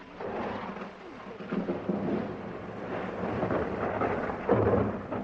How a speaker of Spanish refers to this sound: me regaló un poco de su tiempo una tarde en que la lluvia borroneaba la ciudad.